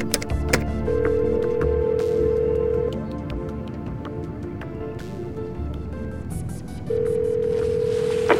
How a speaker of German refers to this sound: Entschuldigen Sie mich kurz, ich muss telefonieren. Vor einem Flugzeug gibt es ein Satellitentelefon.